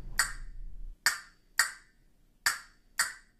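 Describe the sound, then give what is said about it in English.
Five sharp, hollow wooden clacks of castanets, clapped together by the fingers, ring out alone in an uneven rhythm, each a bright, crisp snap with a brief ringing decay. “When they are clapped together by the fingers, they produce a hollow clacking sound.”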